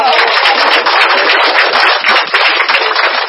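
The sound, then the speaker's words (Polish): A crowd applauds steadily at a gathering in Ofiwice, welcoming the director of the municipal cultural centre of Nowa Wieś Lęborska. Many hands clap in a dense, unbroken wash of sound that stays loud and even for a few seconds. “Wielkie brawa!”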